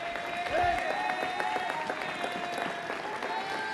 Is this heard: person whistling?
no